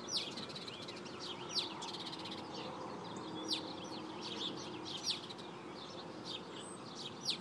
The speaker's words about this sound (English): And there are a bunch of birds in this tree over here. And they're just chirping away.